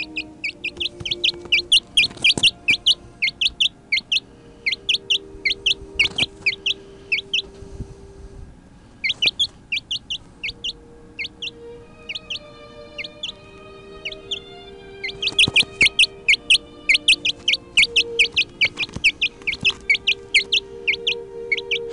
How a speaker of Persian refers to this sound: این صدا صدای جوجه است وقتی که احساس رضایت داره.